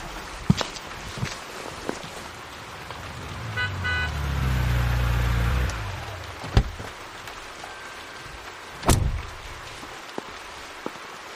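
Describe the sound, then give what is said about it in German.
Someone getting into a car amid rain: scattered clicks and clunks, a low engine rumble swelling mid-way, then a solid car door thud near the end. Nobody speaks. “Setzen Sie sich erstmal in den Wagen und wärmen Sie sich auf.”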